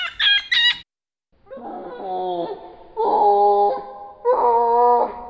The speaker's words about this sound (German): Und ich sag mal so, ich habe ein Hörbeispiel dabei. Hören wir doch einfach mal rein. Man hört dann erst den Affen, wie er normal seinen Ruf macht und dann das Ganze nochmal viermal verlangsamt.